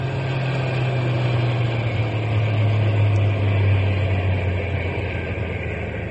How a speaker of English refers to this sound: We'll drive on a little bit and then stop the truck. But keep the motor idling so we can take off in a hurry if anybody comes along.